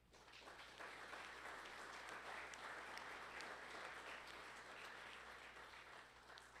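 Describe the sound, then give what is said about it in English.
An audience at St. John's Christian Church applauds volunteers of its Christian education ministries, a dense, steady wash of many hands clapping, holding at an even level for several seconds before easing off slightly at the end. “Please help give these individuals a round of applause.”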